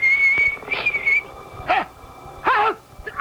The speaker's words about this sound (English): He's coming now, whistling in the dark. And I can't say I blame him.